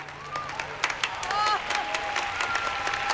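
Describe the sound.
Enthusiastic clapping from several people rising to their feet, a dense, irregular patter of sharp claps that stays steady and fairly loud throughout, with a few brief whoops and murmuring voices mixed in.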